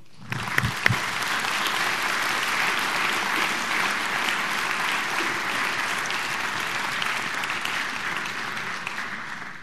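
Sustained audience applause, a dense steady wash of many hands clapping that starts with a few sharper claps and holds at an even, fairly loud level throughout, with no talking.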